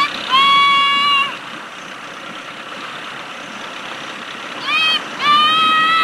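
A small outboard motor runs close by, with a steady buzzing drone broken by two louder, whining surges as the engine revs up briefly and then settles.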